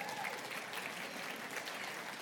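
An audience claps steadily together, a dense, even patter of many hands that holds at a fairly constant loudness from start to finish with no voices over it.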